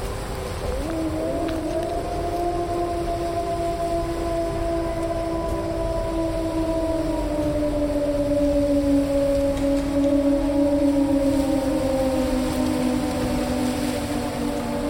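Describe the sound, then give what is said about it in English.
A long, drawn-out wolf howl rises and slowly falls, holding its mournful pitch for many seconds over a steady hiss of background noise, with no voices present. “Are there wolves in Pennsylvania?”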